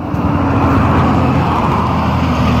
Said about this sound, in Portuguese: Todo mundo tem que desviar, ó, o caminhão vai passar aí, ó.